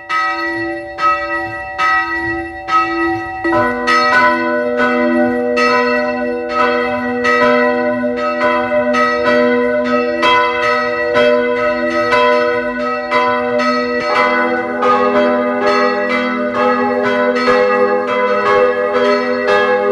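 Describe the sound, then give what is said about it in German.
Several bells of the parish church of St. Margareten im Rosental in Carinthia peal together at 12 noon in a steady, overlapping rhythm, loud and resonant with rich ringing overtones, continuing throughout with no voices present. “Es ist 12 Uhr. Sie hören die Glocken der Pfarrkirche St. Margareten im Rosental in Kärnten.”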